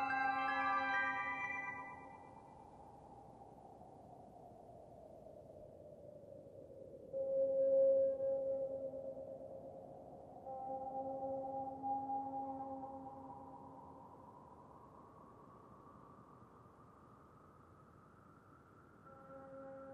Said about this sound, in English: and I think the very last sound you hear in that is a foghorn, and of course there's instrumental sounds in there too, but it's a real fade-out.